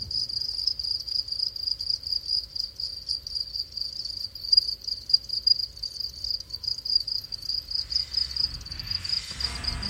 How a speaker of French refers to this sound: mais ça partait du grillon domestique.